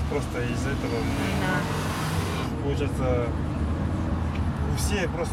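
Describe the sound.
Steady, dense city traffic rumble in Astana, with a few rickety buses without air conditioning idling and moving, while indistinct voices talk over the continuous engine drone.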